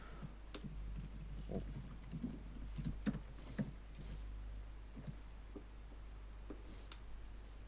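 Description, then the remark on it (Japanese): Irregular, clattering keystrokes from a computer keyboard, tapped in uneven bursts over a steady low hum, with no voices. “キーボード打鍵音がすごい。”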